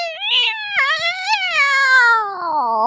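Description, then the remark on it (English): A person imitates a yowling, crazed cat: one long, wavering, nasal wail that rises and falls in pitch for about three seconds, loud, with no other sound around it. “that's a pretty good rendition of a crazy cat.”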